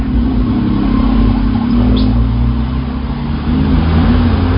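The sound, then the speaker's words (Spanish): A car engine roars steadily on a highway, its low rumble swelling in pitch as it revs while the vehicle climbs onto the highway median and changes lanes, with constant road noise and no voices. “El mío se encarama al separador de la autopista y cambia de carril al ver que no puede avanzar porque los carros de adelante lo están deteniendo.”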